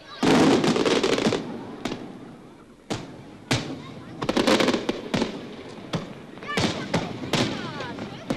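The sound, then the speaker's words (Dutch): Crackling aerial fireworks over the IJ in Amsterdam, set off from flat barges in the evening, burst repeatedly, with sharp loud bangs followed by sizzling crackle and rumbling echoes, coming in irregular clusters; a voice can be heard faintly in the background. “Amsterdam kreeg een knetterend luchtvuurwerk te zien in de stijl van Monte Carlo en Nice.”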